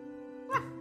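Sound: dog yipping and whimpering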